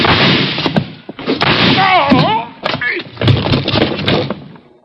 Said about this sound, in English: The door slammed.